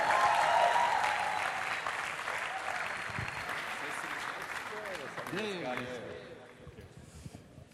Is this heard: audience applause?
yes